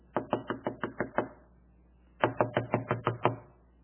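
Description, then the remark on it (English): Two bursts of firm knocking on a door, about seven quick raps each, separated by a short pause, as Peter keeps knocking at dawn out on the street. The knocks are fairly loud, with nothing else in the background. “and yet, in the dawn, out on the common street, Peter is just continually knocking.”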